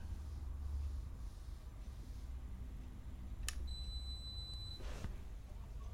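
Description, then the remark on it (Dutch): A dishwasher that has finished its cycle gives a single steady, high-pitched electronic beep lasting about a second, preceded by a sharp click, over a low background hum. Nobody speaks. “Oh, dit is de afwasmachine dan die klaar is.”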